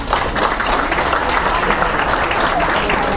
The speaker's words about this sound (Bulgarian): Аплодисменти за господин Генов и хубавите думи, които чухме от него.